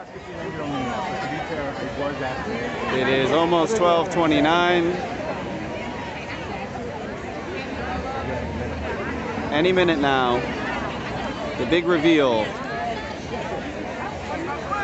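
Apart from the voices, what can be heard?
large crowd chattering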